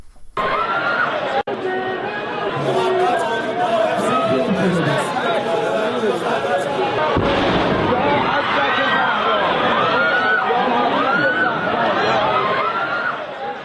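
A dense crowd chatters and shouts continuously when a sudden heavy explosion bursts out about halfway through, its boom mixing into the agitated hubbub that carries on afterward. It is the second of two bomb explosions in Iran, occurring shortly after the first.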